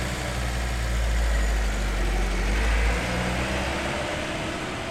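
A transport van's engine rumbles steadily, its deep idle shifting partway through as the van carrying a man pulls away from a camp and drives off. No one speaks.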